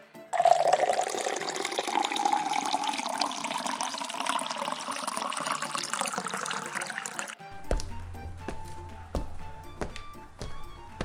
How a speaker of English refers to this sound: Fill the great jars with water. Bring them to the master of the feast.